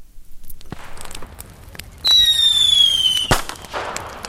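fireworks exploding

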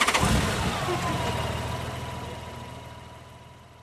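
car engine starting

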